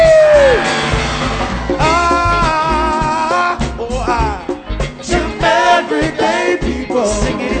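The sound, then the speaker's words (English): A loud crowd screams and yells in a sustained roar, with overlapping whoops and shouts rising and falling over a steady pounding low rhythm for several seconds. “Somebody scream.”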